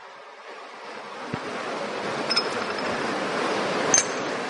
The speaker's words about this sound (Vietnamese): Đến nghe pháp lại thì các ngài lại còn muốn hoan hỉ, cho nên mưa tí cho mát. Nhưng mà thôi, mát đủ rồi, vừa vừa thôi.